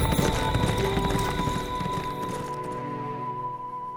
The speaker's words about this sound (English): He quickly mounted Johnny's horse and rode away.